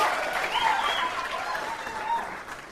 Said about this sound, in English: Aren't they terrific worship leaders? Yeah, that was a polite golf clap. Aren't we well served by our worship team?